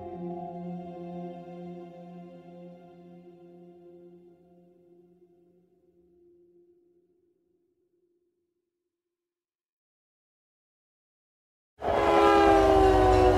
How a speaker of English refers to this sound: So I followed her into the train yard. This is what it sounds like inside the boxcar.